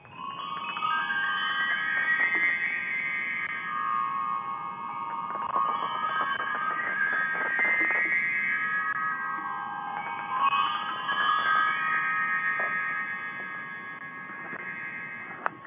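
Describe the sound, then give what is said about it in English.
Randy's Hydrogen Chimes, tuned to the colors of the rainbow, ring out in overlapping, sustained bright tones, struck again and again at an irregular pace so the shimmering notes blend and hang in the air. No one speaks. “And just if you just listen here a moment, I'm going to play his beautiful chimes that are tuned to the rainbow.”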